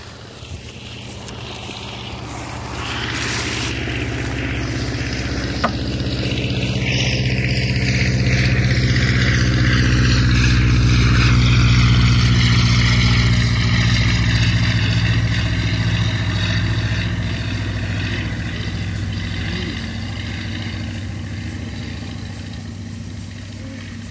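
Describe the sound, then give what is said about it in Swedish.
The engine of a Focke-Wulf Fw 44 Stieglitz propeller biplane, called SK-12 in the Swedish Air Force, drones steadily at the air show at F1 in Västerås on 9 June 1985, swelling to a loud, rumbling peak mid-clip with a low throbbing hum and whining harmonics, then easing off gradually with no voices. “Nu ska vi lyssna till en Focke Wulf FW44 Stiglitz eller SK-12 som den heter i flygvapnet.”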